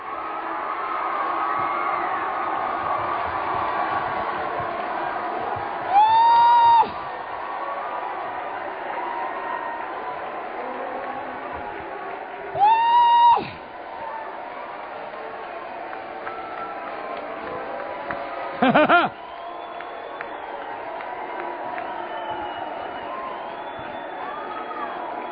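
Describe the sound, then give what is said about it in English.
An audience claps, cheers and shouts in a steady, loud roar of many voices. Three sharp rising whoops break out above the crowd at intervals of a few seconds. “Say, clap your hands, all you people.”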